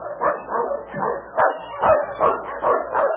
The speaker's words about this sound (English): Say, listen. Do you hear that? A dog team.